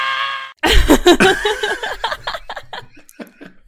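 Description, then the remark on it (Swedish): A woman lets out a loud, high-pitched theatrical scream imitating Marv's shriek from Home Alone, with short sustained cries breaking into choppy, laugh-like vocal bursts. She recorded it in a clip when she could not log into Disney Plus. “Du skickade ju ett klipp till mig när du inte kom in på mitt Disney Plus. Där du bara står och skriker.”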